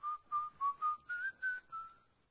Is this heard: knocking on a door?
no